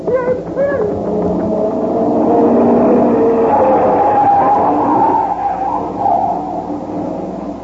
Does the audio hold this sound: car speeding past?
yes